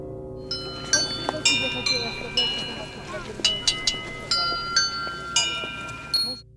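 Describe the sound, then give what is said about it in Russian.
Festive church bells ring out over Chersonesus while a holy relic is in the cathedral. They peal in a lively, irregular pattern, several bells struck in quick succession with their ringing tones overlapping and sustaining, loud, over a low murmur of voices. “На протяжении всего времени пребывания святыни в соборе Херсонес оглашал праздничный колокольный звон, а свою личную маленькую радость каждый желающий мог выразить на мини-звоннице ручной работы.”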